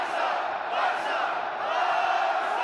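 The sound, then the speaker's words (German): A huge stadium crowd at Camp Nou in Barcelona roars in one sustained, dense wall of voices, loud and steady throughout with no pauses, a massed shouting that swells slightly without breaking. “Das ganze Stadion ist ein Schrei.”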